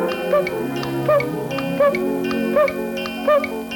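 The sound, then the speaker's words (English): Pooh's cuckoo-style clock sounds off, repeating a short chirping call about five times at a steady pace, each paired with a crisp tick, over a sustained tonal background with no talking. “When Pooh heard his poo-poo clock.”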